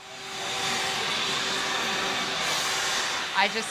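A special bee vacuum designed for sucking up bees runs with a steady whooshing roar as it vacuums feral honeybees out of a cut-open house wall, a hissing motor drone with faint humming tones, broken near the end by a brief rising squeal.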